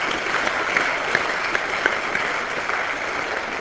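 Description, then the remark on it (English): An audience at a panel event applauds the panel steadily at the close of the proceedings, a dense wash of many hands clapping at once that holds an even level throughout, with a few sharper individual claps popping out. No one speaks. “Well, let's treat that as a benediction on this proceeding, and let me ask you to give a round of applause to our audience, our panel.”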